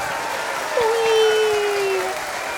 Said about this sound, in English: Let's give a round of applause for everybody.